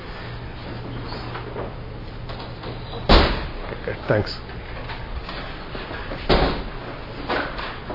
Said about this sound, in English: Would you mind fixing that? There's something creaking there.